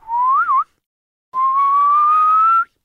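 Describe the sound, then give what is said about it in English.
Two clear human whistles, in the story of Heidi the whistle of Peter bringing the goats home at sunset: a short rising tone with a little warble at the end, a brief pause, then a longer steady note that climbs slowly. Fairly loud, no talking. “When the sun was setting, Heidi heard a whistle.”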